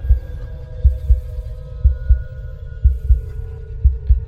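heartbeat sound effect

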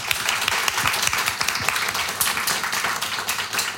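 audience applause

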